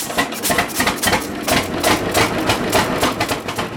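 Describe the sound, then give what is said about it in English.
A steady mechanical chugging with a fast, even rhythm of sharp pulses from an old farm tractor engine, bought new in 1937, running loud and continuous with no voices. “they purchased this tractor for $600, and they traded four mules to get it”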